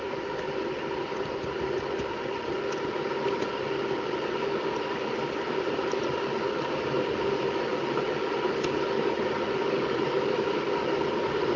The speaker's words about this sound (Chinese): 啊，在烧水。